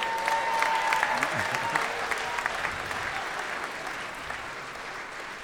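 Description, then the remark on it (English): Steady audience applause as Judge John Hodgman exits the courtroom, a dense wash of many hands clapping at an even, fairly loud level throughout, easing off slightly toward the end, with a brief faint tonal whistle early on. “I was feeling better until the applause.”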